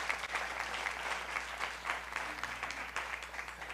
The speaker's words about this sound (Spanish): Gracias a Dios, dale un aplauso a Dios por eso, porque eso es increíble.